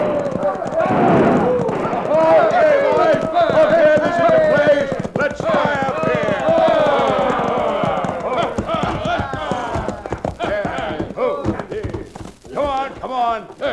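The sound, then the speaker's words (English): A crowd of hoodlums ride their horses into the town of Dos Rios, the many galloping hooves a rapid, continuous drumming while the men whoop and holler loudly over the pounding, the racket thinning out toward the end. “It all started when a crowd of hoodlums rode into Dos Rios, airing their lungs and triggering their guns.”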